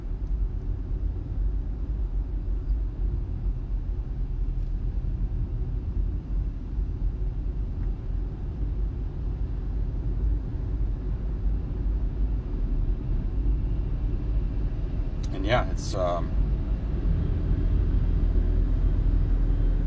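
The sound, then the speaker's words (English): A steady low engine rumble and road noise fill the interior of a car driving down a mountain road, with a brief high-pitched squeal or chirp cutting through near the end. “I'm just out here trying to come off this mountain, drive down this mountain.”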